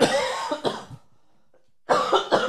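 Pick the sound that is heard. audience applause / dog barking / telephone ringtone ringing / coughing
coughing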